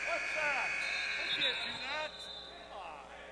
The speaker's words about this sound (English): And now the buzzer sounds.